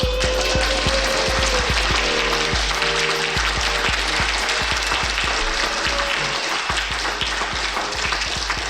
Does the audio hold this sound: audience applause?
yes